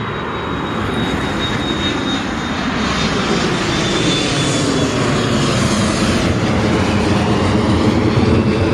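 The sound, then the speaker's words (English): A jet airplane roars steadily as it takes off from an airport runway, its broad engine rumble building and staying loud, with a faint high whine threading through the noise. “Man, the trucks always come when the planes are taking off.”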